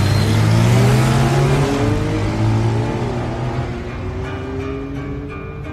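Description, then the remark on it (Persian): Motorcycle engines rev hard, their pitch climbing and shifting, then the roar gradually recedes as the motorcyclists ride away. No voices. “موتور سوارا میرن.”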